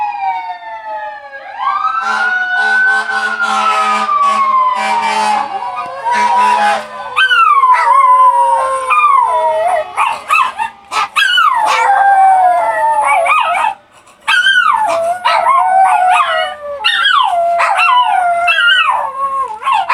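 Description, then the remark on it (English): A dog howls in long, wavering cries alongside a passing fire truck siren that sweeps up and down, the siren fading as the dog keeps yipping and howling, with no talking. “Every time it's always a fire truck that has the longest fucking siren, and that's the one that sets off the dog.”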